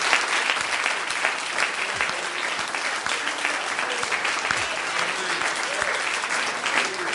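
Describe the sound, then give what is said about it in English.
An audience claps in praise during a church service, steadily for several seconds, a dense, even wash of many hands with no pauses, staying loud throughout, with faint voices mixed in underneath. “Let's just give him a hand clap of praise tonight.”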